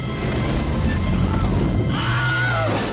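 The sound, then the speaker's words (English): The Wilhelm scream, a man's sharp, yelping stock film cry, heard in Raiders of the Lost Ark, rises and falls near the end over a dense, loud bed of crashing, rumbling action noise. “Yep, that was our friend Wilhelm in Raiders of the Lost Ark.”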